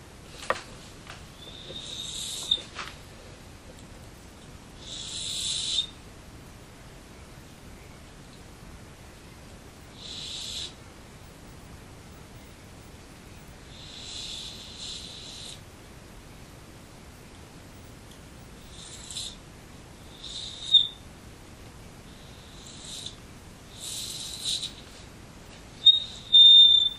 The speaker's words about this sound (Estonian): Jääb see vahe muudab päris palju, ma panen lähed hästi lähedada, siis ta tuleb vile, siis tuleb peenike. Või mitte peenike, või kõrge.